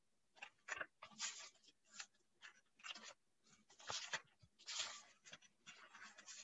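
Paper pages rustle and crinkle in a string of irregular bursts, like someone flipping and smoothing sheets, with no voices heard.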